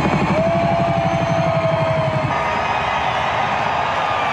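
Loud, steady mechanical roar with a rapid rhythmic chopping pulse in the low end as helicopters fly overhead after the national anthem, the thumping fading slightly midway while the engine drone continues.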